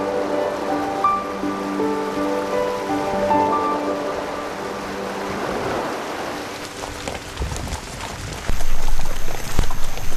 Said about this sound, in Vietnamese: Vào mùa hè, nhiệt độ có thể lên tới 50 độ C. Đàn ngựa đầm mình xuống hồ để bớt nóng.